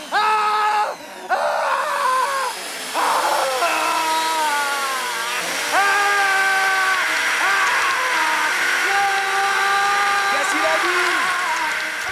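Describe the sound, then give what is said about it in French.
A voice imitates a power drill, whirring in buzzy bursts whose pitch repeatedly revs up and winds down, loud and continuous for several seconds, with short pauses between runs. “Voilà, donc l'homme à la perceuse.”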